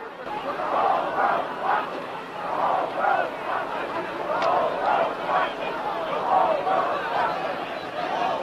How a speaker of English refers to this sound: And the persistent chanting by the crowd, "The whole world is watching," they say.